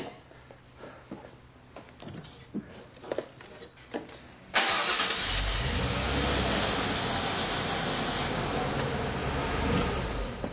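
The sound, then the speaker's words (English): A few clicks and rattles give way to a truck engine cranking and catching, then settling into a loud, steady rumble that runs to the end. “See, might be easier for you to sell now that it works.”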